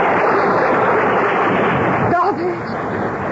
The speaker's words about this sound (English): Make them stop it, Doctor. That noise, oh, please. It's just a summer night storm